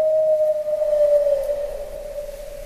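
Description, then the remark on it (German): A single long owl call from afar, a steady mid-pitched hoot that holds for about two seconds and slowly dips in pitch over a soft background hiss, with no voices. “Von ferne ertönte der Ruf der Eule.”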